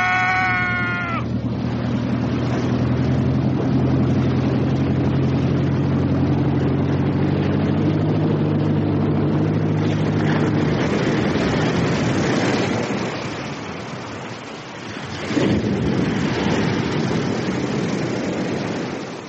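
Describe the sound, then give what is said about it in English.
A motorboat, swung hard to port, races through the Couloir du Diable channel; its engine drones loudly beneath a constant roar of wind and splashing spray. The engine hum fades after about ten seconds, the rushing noise dips briefly, then surges back. “Trawler swung our boat hard to port and drove like an arrow for the suicidal channel of the Couloir du Diable.”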